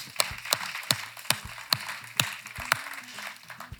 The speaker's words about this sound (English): You belong to, you wanna clap for that? Amen, let's clap for that. It's Easter, amen.